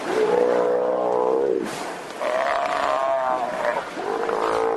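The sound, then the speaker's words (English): A mob of sea lions bellows loudly under a ferry dock in the harbor of the native village of Chiniga, Prince William Sound. Three long, groaning calls follow one another with barely a pause, several animals overlapping in a dense, echoing chorus. “A mob of sea lions gathers under the ferry dock, and whales blow in the distance.”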